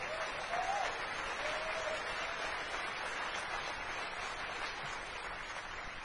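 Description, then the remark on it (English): An audience at DEF CON breaks into steady applause, a dense wash of clapping that holds at an even level for several seconds, with a faint whistle or cheer poking through early on, applauding the person responsible for the DEF CON forums. “so we should give him a little round of applause for making that work.”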